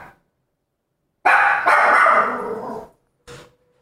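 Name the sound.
dog barking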